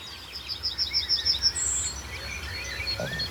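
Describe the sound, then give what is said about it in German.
Golden orioles and yellowhammers sing in the open air, the yellowhammers counter-singing: a quick run of high, repeated chirping notes, then scattered whistles, over a steady low hum of rush-hour traffic. No one speaks. “Pirole sind deutlich zu hören. Goldammern, neben Kontergesang und immer noch der Berufsverkehr.”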